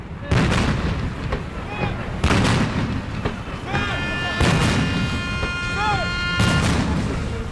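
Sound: ceremonial cannon salute fired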